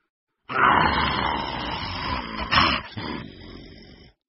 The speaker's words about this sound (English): It was a pack of wolves. They had red eyes and long white teeth. They growled at Floppy.